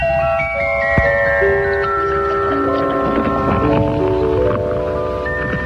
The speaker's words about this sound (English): The sound of good taste. That's Iron City beer pouring cold and clear into a frosty glass.